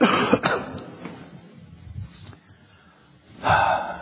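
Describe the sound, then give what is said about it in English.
A person coughs: a quick cluster of harsh coughs at the start, a quiet pause with faint breathing, then one more rough cough near the end. No speech. “I have to cough, sorry.”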